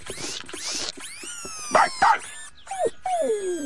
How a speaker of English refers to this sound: Ooh. Robot dog...